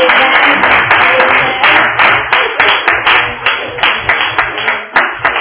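A crowd claps steadily, with one pair of hands slapping especially hard and loud in a quick, regular rhythm that stands out above the rest of the applause.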